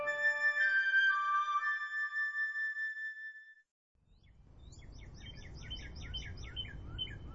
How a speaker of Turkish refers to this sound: Sıcaklar iyice artmış, bunalan çekirgelerin ötüşleri etrafı sarmıştı.